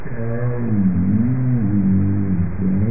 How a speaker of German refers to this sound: Der nordatlantische Glattwal, hier in einer Aufnahme der amerikanischen Meeresbehörde NOAA, gehört mit seinen nahen Verwandten, dem südlichen Glattwal, zu der wohl am besten beobachteten Walart.